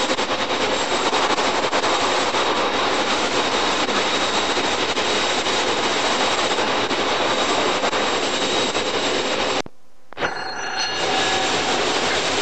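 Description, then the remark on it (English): A stone freight train hauled by a 56 diesel locomotive rushes past on the right, a loud, steady rumbling roar that cuts out abruptly for a moment near the end before the noise resumes. “And there's a freight train, a stone train with a 56 on it, just passing me on my right.”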